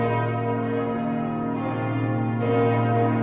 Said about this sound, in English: The bells of the Kaiser Wilhelm Memorial Church ring out across Berlin. The Rinker's foundry that made them faces an uncertain future.